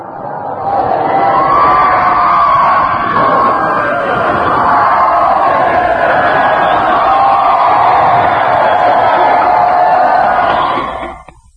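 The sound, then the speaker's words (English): A large crowd cheers and shouts together in the street at Piccadilly, London, at about 2:50 local time, in a loud, sustained roar that holds steady for about ten seconds before cutting off abruptly, with excited voices rising and falling throughout. “And I'm just going to raise my hand and see if they weren't over there in the United States, all the way from Piccadilly here in London, at 2:50, very nearly 2:50 our time, won't give you a cheer.”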